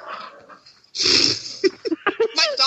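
A dog whimpers and whines in a series of short, high-pitched cries with breathy snuffling, starting after a moment of quiet and repeating in quick, uneven bursts.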